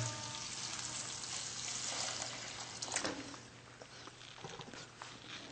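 Water pours into a hot pan of vegetables (French beans, zucchini, yellow squash, bell peppers and green peas), setting off a steady, hissing sizzle with a brief louder burst partway through, then settling into a softer bubbling crackle. No one speaks.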